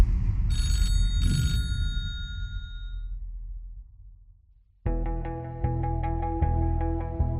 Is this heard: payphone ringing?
yes